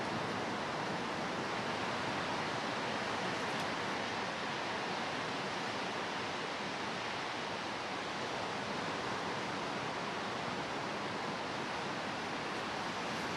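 Ocean waves breaking on a beach at Cocoa Beach on a foggy morning blend into a steady, unbroken roar of surf that stays loud and even throughout, with no distinct individual crashes and no voices.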